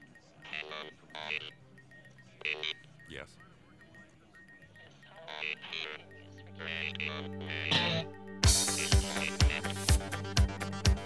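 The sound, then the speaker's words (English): A man talks over a low hum at radio station KAOS, Chaos in Los Angeles, then a studio telephone bursts into loud, rapid ringing as a listener calls with a request, a fast string of sharp, bright bell pulses that continues to the end. “Let's go to the telephones now and take a request.”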